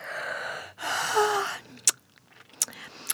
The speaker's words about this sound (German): Ach, du bist es, Laura, gähnt Ulf und schmatzt müde.